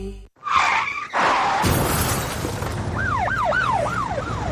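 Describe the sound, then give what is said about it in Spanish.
A loud car crash: heavy impacts followed by a burst of shattering glass, then a wailing emergency siren rising and falling in the background. No one speaks. “¿Has sufrido un accidente de tráfico?”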